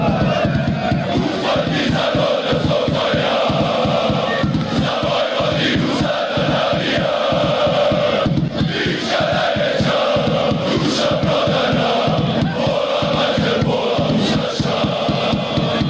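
A large crowd of Partizan football fans chants a hateful slogan in unison from the stands, a loud, dense roar of voices with a rhythmic, repeated cadence running steadily throughout.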